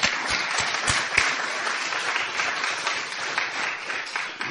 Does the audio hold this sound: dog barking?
no